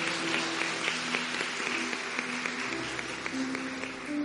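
Steady applause from a crowd fills the whole stretch, dense overlapping claps at an even loudness with a faint sustained tone beneath, no voices over it.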